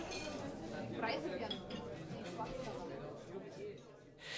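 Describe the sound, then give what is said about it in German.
Glasses clink together in a toast, a few bright taps rising over a steady bed of murmuring voices and clatter, moderately loud. “Partnerlausch. Prost.”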